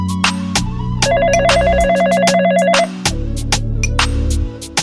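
A phone ringtone trills in a rapid, warbling electronic pattern of alternating high tones for about two seconds, laid over a steady, beat-driven backing with thumping low tones.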